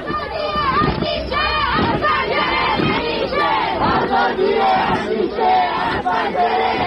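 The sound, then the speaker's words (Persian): A large crowd of young people in Ekbatan, Tehran, chants a protest slogan together at night, many voices shouting in unison, loud and sustained for the whole stretch, with rising and falling rhythmic phrases. “و بترسید و بلرزید از روزی که اونایی که میترسن و هنوز از پشت پنجره ها دارن با چشم های نگران اعتراض دیگران رو نگاه میکنن، این شعار دیشب بچه های اکباتان تهران رو لبیک بگن.”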